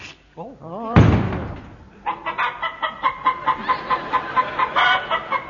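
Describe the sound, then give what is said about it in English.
A man's voice imitates a rooster, starting with warbling squawks and a loud crow-like cry, then settling into a rapid, rhythmic run of clucking bursts, fairly loud. “It's turned him into a male chicken.”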